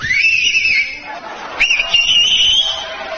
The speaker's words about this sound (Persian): این آقا سه تا انگشتش یا دو تاشو گذاشته تو دهنش داره سوت میزنه. من بهش میگم که تو یه جوون، حیف دهنت گشاد میشه، نمیخواد انگشتا تو دهنت بکنی. شما همینجوری هم میتونی سوت بزنی.